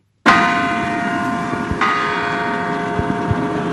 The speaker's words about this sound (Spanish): Es mediodía y suenan las campanadas en la Basílica de Santa María en Phoenix, Arizona. Está por empezar la misa en español.